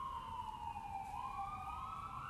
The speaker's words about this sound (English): And you hear that siren. I mean, there you go.